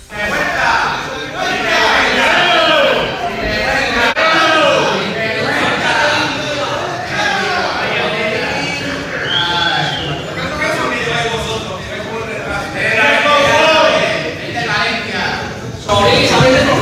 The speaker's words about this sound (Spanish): Ha destrozado el club, abucheos a Meriton, preguntas constantes sobre si se están lucrando o no con el Valencia